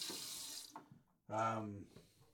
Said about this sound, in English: I don't know if you can even hear any of this because of the water.